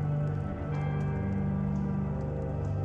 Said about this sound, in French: Entendez le crépitement des flammes. Il y a un petit peu de brise autour de vous. Et quand ce petit vent souffle, vous voyez les flammes brûler avec plus d'intensité.